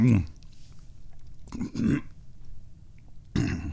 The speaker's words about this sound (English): are you eating these tacos right now? Girl. Yeah. What the hell do you think?